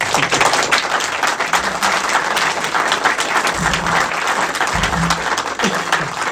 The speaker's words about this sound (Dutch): En volgende keer, ja, een applaus.